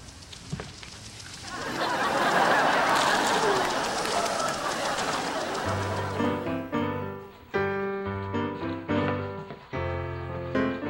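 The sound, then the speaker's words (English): Seagulls call in a run of short, harsh, tonal cries over the last several seconds, following a stretch of steady rushing outdoor noise like wind or surf. “Please tell me you're not feeding the seagulls again.”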